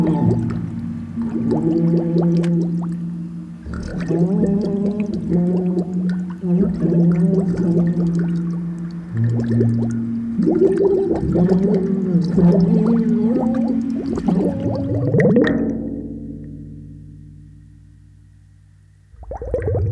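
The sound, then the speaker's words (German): A person singing and speaking underwater as an experiment: a muffled, warbling voice sings and babbles through water, its tones bubbling and gurgling in steady bursts for about fifteen seconds before fading into a low, quiet rumble. “Experiment Nummer 2. Singen und sprechen unter Wasser.”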